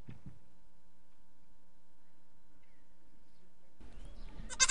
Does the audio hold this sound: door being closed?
no